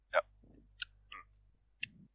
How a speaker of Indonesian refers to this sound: Jelas, lu sambil ngunyah ya.